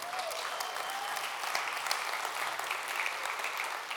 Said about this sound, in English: Come on, someone give the Lord a clap and a praise.